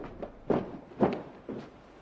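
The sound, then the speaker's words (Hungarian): A few steady footsteps walking toward a door, about one every half second, each a soft dull thud with a brief scuff, at moderate volume over quiet background hiss and no voices. “Elindul az ajtó felé, majd hirtelen visszafordul.”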